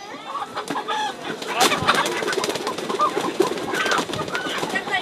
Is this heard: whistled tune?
no